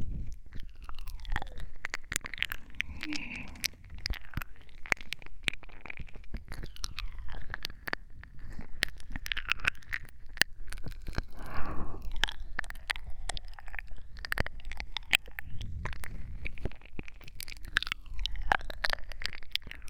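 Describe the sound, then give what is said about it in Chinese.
Wet chewing and mouth sounds of a tongue chewing on the listener's ear continue for the whole stretch, with constant smacks, clicks and soft squishes in an intimate, ear-close ASMR style and no talking. “自己的耳朵却在被舌头嚼着呢。”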